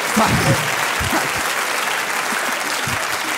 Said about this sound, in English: What an odd thing to applaud, that is.